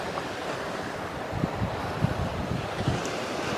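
Ocean waves crash against sea cliffs at sunset in a steady, rushing roar, with a few deeper thuds of breaking surf and some wind buffeting the microphone. No one speaks.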